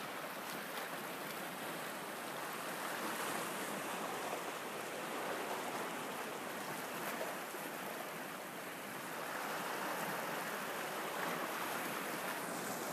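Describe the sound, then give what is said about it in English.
Steady roar of ocean surf washing in continuously, with a slight lull near the end before the next swell rises again. No voices, just the broad, hissing rush of water. “And I invite you all to gaze into the ocean.”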